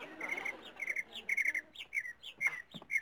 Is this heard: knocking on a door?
no